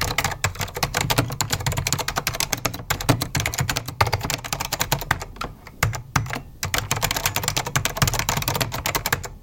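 Rapid, steady typing on a clacky Apple Extended II mechanical keyboard, dense bursts of key presses with a few brief pauses, fairly loud, with no voices.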